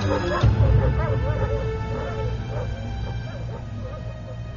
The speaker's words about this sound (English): The other hounds went berserk, their legs driving, dragging their handlers along as they attempted to get at Christy and tear her apart.